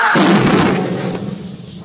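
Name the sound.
car bomb explosion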